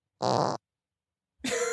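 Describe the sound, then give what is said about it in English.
Two loud fart sound effects separated by a short silence: a buzzy, sputtering burst followed by a second, rougher one with a brassy tone. “I thought you were going to keep doing the fart sounds, and I didn't know what tone to take.”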